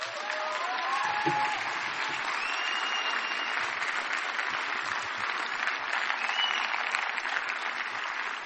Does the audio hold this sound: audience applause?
yes